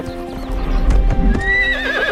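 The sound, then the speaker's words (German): A horse's hooves clatter in a steady clip-clop as it runs, then it lets out a rising, wavering whinny over the hoofbeats. No one speaks. “Da hat Jane ein Pferd wirklich sehr, sehr glücklich gemacht.”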